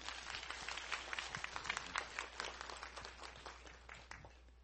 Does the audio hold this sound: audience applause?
yes